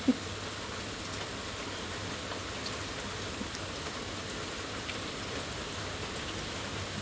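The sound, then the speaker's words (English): Steady rain falls all around a front porch, a constant hiss with soft patter on surfaces and a faint low rumble underneath; one brief knock sounds at the very start, and no one speaks. “I'm just sitting on my front porch drinking coffee in the rain.”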